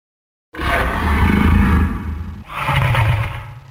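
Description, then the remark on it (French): A deep, loud roar of a fire-breathing dragon monster bursts out after a brief silence, rumbling for over a second, followed by a second roar close behind, both growling and raspy with no one speaking. “À la lueur du feu qu'il crachait, la princesse découvrit le monstre.”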